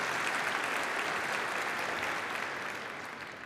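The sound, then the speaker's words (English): Steady applause from a large audience in a church sanctuary, a dense wash of many hands clapping at once for those who built the church, holding evenly and then beginning to taper slightly. “Could we clap, please, for those who built it?”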